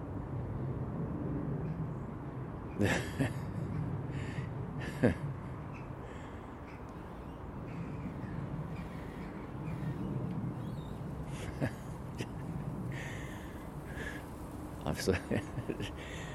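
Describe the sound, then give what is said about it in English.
A big wood pigeon's wings clap in short bursts, a few sharp slaps together, then single claps, then a quick flurry, all over a steady low rumbling background. “It was a big wood pigeon. Sounded like a sea lion clapping on stage.”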